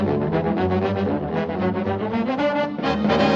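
A Tuba Christmas ensemble plays loud, bouncy oompa music, deep tuba notes pulsing in a steady rhythm with brighter brass harmonies stacked on top, with no voices.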